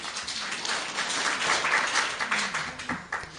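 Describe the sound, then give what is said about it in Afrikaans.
An audience applauds a reading steadily, many hands clapping in a dense, crackling wash that holds an even loudness throughout and tapers slightly at the end, with no voices. “Ek dink ons kan gerus 'n bietjie applous gee vir daai voorlesing.”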